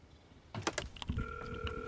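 Gates opening: a few sharp mechanical clicks and clunks, then a steady, moderately loud electronic hum with a high whine that holds to the end. No one speaks.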